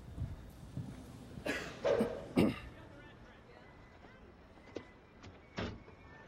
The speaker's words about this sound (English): Excuse me. I know you didn't think anyone would catch you, but you just slammed your door into my car.